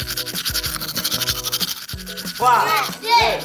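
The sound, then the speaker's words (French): Steady, scratchy scrubbing of a toothbrush with toothpaste working over teeth, continuous, with tonal music-like sounds and brief vocal swoops underneath. “Donc attrape ta brosse à dents, ton dentifrice, et dérote jusqu'à ce que l'histoire soit terminée.”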